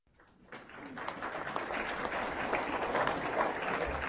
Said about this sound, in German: Mit einem langen Beifall wurde Günter Grass begrüßt. Nicht alle, die den bekanntesten deutschen Schriftsteller hören wollten, passten in den Saal hinein.